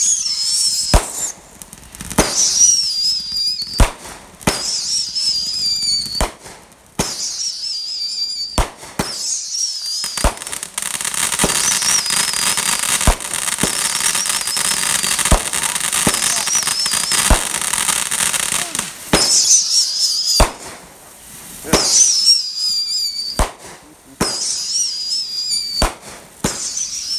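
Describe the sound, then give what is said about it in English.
Fireworks go off, whistling shrilly and crackling continuously, punctuated by sharp pops and bangs at irregular intervals. “Just lit the next set of fireworks as these right here continuing to go off.”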